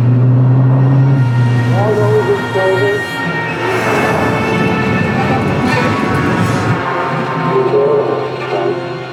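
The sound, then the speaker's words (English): A car engine rumbles steadily and loudly throughout, a deep continuous drone of driving, with faint muffled voices drifting through the noise. “Meanwhile, I got in the car.”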